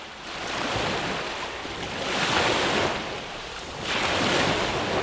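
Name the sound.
ocean waves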